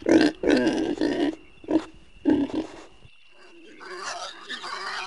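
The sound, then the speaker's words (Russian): Several short grunts and squeals from wild boar piglets on bedding of dry grass and leaves come in choppy bursts over a few seconds, then give way to softer, rustling snuffles, with a faint steady whine in the background. “Ой, на подстилке из сухой травы и листьев спят малыши, дикие свинки.”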